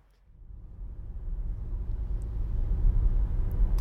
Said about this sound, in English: Well, let's get back in the car and carry on driving.